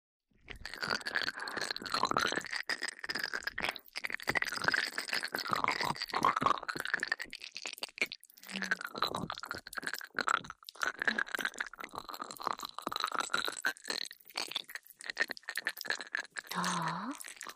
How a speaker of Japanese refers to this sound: 音はこれぐらいでいいかな。じゃあ泡同様にこのスライムを君のお耳にくっつけてマッサージするわよ。